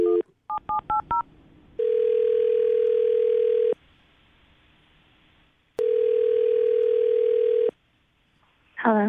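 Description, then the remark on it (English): A quick burst of touch-tone dialing beeps, followed by two long, steady ringback tones separated by a pause, as a phone call rings through on the line. No one speaks. “I'm going to dial the phone number right now.”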